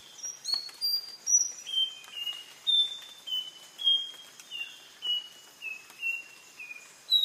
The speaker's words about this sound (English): He recorded the nightingale wren.